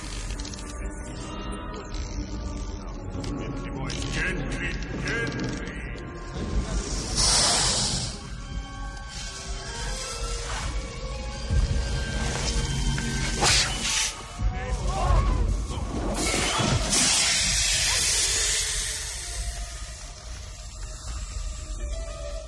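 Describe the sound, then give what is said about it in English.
Asps hiss in repeated bursts over a dense, busy wash of orchestral music and rumbling commotion, with voices mixed in and the hissing rising sharply at a couple of moments. “You got the snakes in your office”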